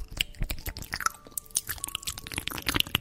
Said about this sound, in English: Oh, that's gross. Is that supposed to be chewing? That is somebody chewing into a microphone, ASMR. I would say that they need to chew with their mouth closed.